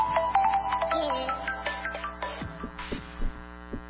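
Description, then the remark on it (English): A telephone rings with a quick run of bright electronic tones over a steady low hum, then the melody breaks into scattered, glitchy beeps as it fades. The phone is having technical difficulties during a show on radio station WPRK, Winter Park, Florida. “Little technical difficulties there with the phone.”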